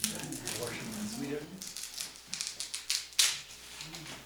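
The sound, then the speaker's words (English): The dry, papery skin of a sweet onion crackles as it is peeled, in a quick run of sharp, irregular snaps and rustles, following a brief stretch of low murmured voice. “Hear the paper?”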